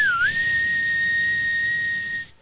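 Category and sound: vehicle, train whistle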